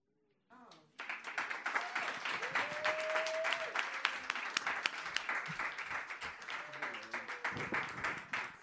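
A crowd bursts into loud, sustained applause after a brief quiet start, dense clapping continuing steadily with a few whoops and cheers rising above it.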